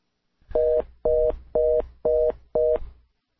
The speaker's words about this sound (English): Oh, all I got was a busy signal when I hit that. Give us a call back right away, will you?